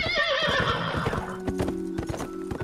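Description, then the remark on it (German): A horse lets out a loud, wavering whinny, then its hooves clop in an uneven rhythm on a hard surface, with no voices. “Der sogenannte Cursus Publicus beförderte Post per Schiff oder Pferd.”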